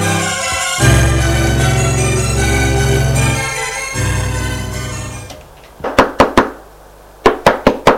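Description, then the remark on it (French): Sustained music plays, then stops, and sharp knocks on a bedroom door follow: a quick set of three, a short pause, then four more, loud. “On frappe à sa porte.”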